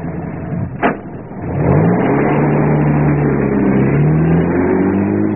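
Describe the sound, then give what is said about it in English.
A jeep engine catches after a brief clunk, then roars loudly and revs up, its droning pitch climbing and holding steady as the vehicle pulls away, with no talking. “Driver, give me the keys to that jeep.”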